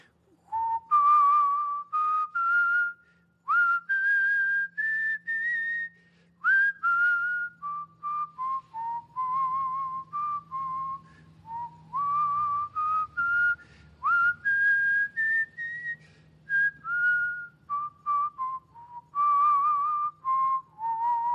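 A person whistles a slow, flowing hymn melody, clear, with sustained notes gliding between pitches in phrases separated by brief breaths, and no talking.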